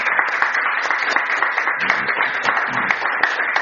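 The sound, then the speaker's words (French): An audience at a church service applauds the Lord after a healing testimony. Many hands clap steadily in a dense, continuous wash of sharp claps with no clear rhythm, loud and sustained throughout, without any voices standing out. “On peut applaudir le Seigneur.”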